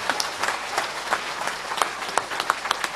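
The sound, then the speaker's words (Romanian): A church audience breaks into sustained applause for Jesus, many hands clapping in a dense, crackling wash with sharper individual claps standing out, steady in loudness throughout. “aș vrea să-L aplaudăm pe Împăratul Iisus.”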